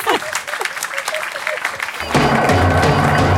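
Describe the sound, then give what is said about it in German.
An audience claps steadily in a dense, crackling wash of applause, swelling louder about two seconds in as more hands join, with a few scattered voices mixed into the clapping. “Vielen Dank, danke, jetzt einen Applaus.”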